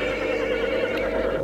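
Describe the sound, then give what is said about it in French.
A horse neighs loudly, one sustained, strained whinny that fills the brief moment with no voices around it. “Il prend son cheval.”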